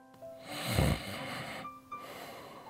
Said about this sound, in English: was already snoring.